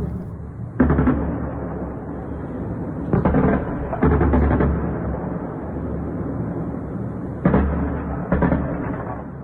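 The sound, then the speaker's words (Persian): Repeated bursts of heavy anti-aircraft gunfire from an air defense exercise in Bushehr, Iran, held at 5 a.m. local time, over a constant loud rumble. Several clusters of rapid shots come in irregularly, with no one speaking. “در شبکه‌های اجتماعی کاربران ویدیوهایی از شلیک ممتد ضد هوایی منتشر کردند.”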